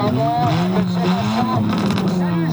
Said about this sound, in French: Cette voiture est équipée d'un échappement libre, ça veut dire un simple tuyau. Ce qui compte, c'est de faire du bruit.